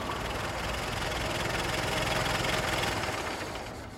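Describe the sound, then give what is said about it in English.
A car engine hums steadily, a continuous low rumble with a rough, vibrating texture that eases slightly toward the end as the car comes to a stop and idles. “Okay, hang on. I'm going to stop the car.”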